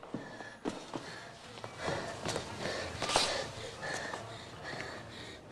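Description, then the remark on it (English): A man who has fallen to his knees on a landing gasps and wheezes for breath in ragged, uneven pulls, with sharp sniffing intakes and a few soft scuffs and thumps mixed in. “He falls to his knees, gasping for breath on the landing.”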